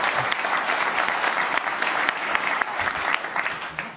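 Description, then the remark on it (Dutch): Steady applause from a group, many hands clapping in a dense, continuous patter that holds at an even level for the whole stretch, with no voices standing out, after a child pledges to work for all children in the municipality of Oude IJsselstreek. “Een applaus.”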